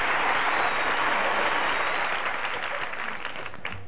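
A crowd claps steadily in sustained, dense applause that stays loud throughout before cutting off abruptly at the end.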